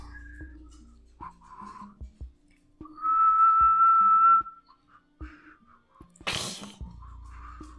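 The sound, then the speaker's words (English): Someone tries to whistle: a few soft breathy puffs, then a loud, steady whistled note held for about a second, followed later by a sharp burst of breath. “I can't whistle.”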